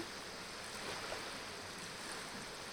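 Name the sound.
flowing river water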